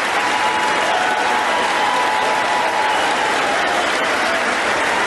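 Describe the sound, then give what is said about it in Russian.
Sustained, loud standing-ovation applause from a large crowd for Biden's words, a dense steady wash of clapping that holds for about five seconds without letting up, no voices standing out. “Аплодируют стоя таким словам Байдена, но это ничего не поменяет, скорее всего”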